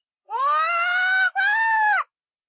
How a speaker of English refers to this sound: It's a parrot, said the woman. And it's very clever.